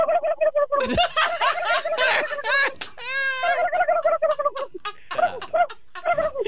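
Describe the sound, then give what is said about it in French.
A man imitates a turkey with his voice on a show where listeners do their poor imitations, producing rapid, wobbling gobbles and high, warbling trills in loud bursts that continue for several seconds. “Moi, j'imite la dinde.”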